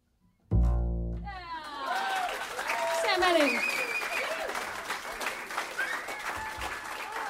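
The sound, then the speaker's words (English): An audience at WBGO breaks into applause after a sung vocal performance, a dense, steady patter of many hands clapping that swells and holds for several seconds, with scattered voices and a few cheers mixed in. “It's all right to clap.”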